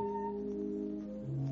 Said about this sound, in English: Night Beat came to you from Hollywood. Three chimes mean good times on NBC.